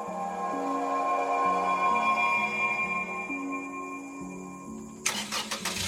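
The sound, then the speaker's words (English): A truck engine hums steadily with shifting tonal pitches, then near the end it sputters and roars into rough bursts as the engine starts up. No one speaks. “Well, I think it's about time that we hopped back in the truck and headed back to the city.”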